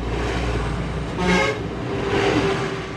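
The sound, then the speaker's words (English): A steady stream of brightly colored buses grinds up a mountain road around steep terraces above the Min River in China, with a steady, loud engine rumble. A horn toots twice over the traffic noise, once briefly and once a little longer. “A steady stream of brightly colored buses lumbers up and around the steep terraces above the Min River.”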